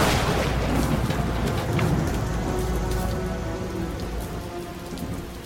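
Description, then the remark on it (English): Heavy rain pours steadily while deep thunder rumbles loudly from a lightning bolt striking a dumpster, the low roar slowly easing off over a few seconds under the constant hiss of rainfall. “And that was when the lightning bolt hit the dumpster.”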